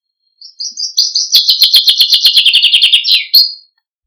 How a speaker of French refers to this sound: Écoutons maintenant le chant d'un pinson des arbres espagnol et plus précisément de Catalogne.